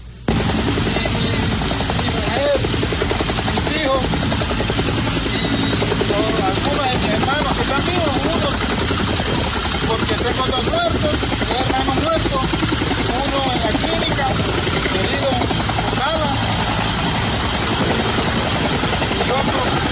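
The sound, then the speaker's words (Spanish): A helicopter's rotor chops rapidly and steadily with a droning engine, loud for the whole stretch, while faint voices are partly buried beneath the noise, as rescued peasants are flown to a safe place. “Pues una vez fueron trasladados en helicóptero o hasta un lugar seguro, esto dijeron los rescatados a los uniformados del ejército.”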